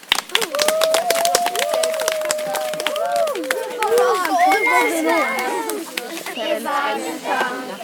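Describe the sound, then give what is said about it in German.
A group of children at a school claps rapidly and unevenly while many high young voices shout and cheer over the applause, the clapping thinning out toward the end. “Einen großen Applaus.”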